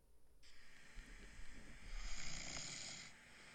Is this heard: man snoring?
yes